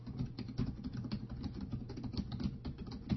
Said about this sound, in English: Yeah, noisy keyboard, huh?